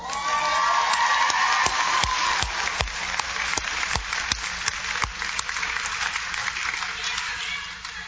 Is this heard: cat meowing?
no